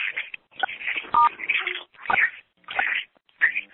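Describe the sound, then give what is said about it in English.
A harsh, crackly phone line carries choppy bursts of distorted noise, with a brief dialing-style beep tone cutting through partway in; no one speaks. “Yeah, somebody's got a phone open and the radio's playing or something like that.”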